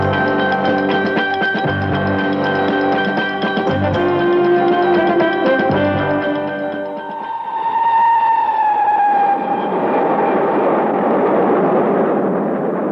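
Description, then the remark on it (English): A train roars along the rails on its way towards Norborough, loud, with a dense rumbling clatter that shifts midway into a hissing, rushing wash of noise as it keeps moving. “Train roaring its way towards Norborough,”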